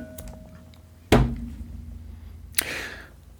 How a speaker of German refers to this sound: Ich werde jetzt eine Münze werfen. Ihr seid live dabei. Wartet mal.